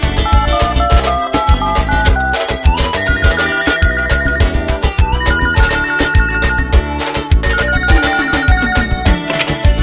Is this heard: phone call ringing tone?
yes